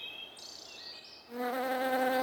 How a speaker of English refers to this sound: Silly bee.